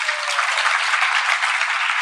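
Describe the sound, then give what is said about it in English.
Steady, dense applause from an audience welcoming newcomers to the Evolve program, many hands clapping at once in a bright, crackling wash that holds at a fairly loud, even level throughout, with no talking. “Let us all give them a loud round of applause, please.”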